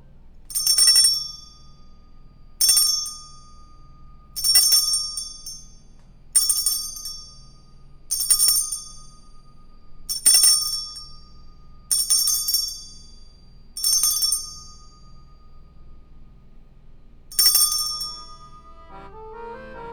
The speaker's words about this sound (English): I think you are up with the chime.